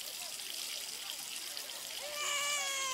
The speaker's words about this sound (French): Mais qu'est-ce que tu cries comme ça? On est quand même sous l'eau tiède.